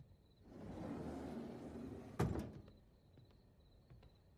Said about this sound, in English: She slips inside a room and slides the door shut, then looks around.